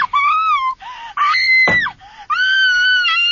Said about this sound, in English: A gun cracks. The girl screams. I dive for the trees.